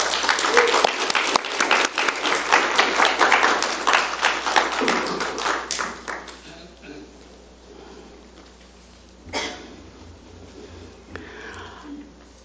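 Loud, dense applause of many hands from a church audience welcoming two fathers forward to be baptized on Father's Day, holding steady for several seconds before thinning out and fading, followed by quiet background noise and a brief soft bump.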